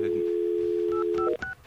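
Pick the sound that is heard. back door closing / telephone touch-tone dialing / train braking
telephone touch-tone dialing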